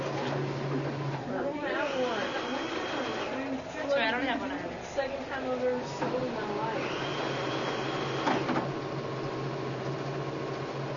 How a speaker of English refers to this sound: Oh, no, this is a cute sewing machine. Isn't that cool? It goes slower, too, so it really gives you more control. That is neat.